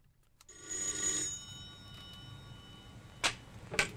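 A telephone bell rings once in a short, bright metallic burst, then fades, followed by two sharp clicks a few seconds later. No one speaks.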